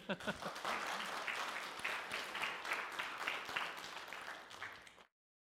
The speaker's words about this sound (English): If you plan to pray for them, give them a round of applause.